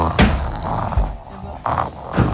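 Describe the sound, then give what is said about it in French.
Loud, exaggerated snoring performed by a human voice as a wolf that has eaten and fallen asleep, with several rough, growly snores repeating in a slow rhythm, prominent. “Rassasié, le loup s'endormit et se mit à ronfler très fort.”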